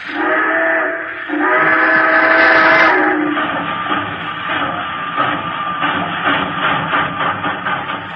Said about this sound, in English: You are at Elkhart, Indiana. The train has just pulled out.